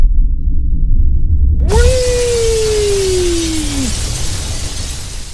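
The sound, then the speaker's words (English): A low rumble swells into a sudden crash of shattering noise that hangs on as a steady roar, while a single whistling tone slides slowly downward for about two seconds. “Stand back, everyone. It's gonna blow.”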